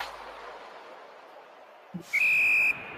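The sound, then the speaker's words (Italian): A single sustained, shrill referee whistle blast in a pixel-art football video game during an Argentina vs Korea match, about half a second long, loud and steady, rising out of a quiet hissy background after a brief low thump. “Ah, beh, il fischio, giustamente.”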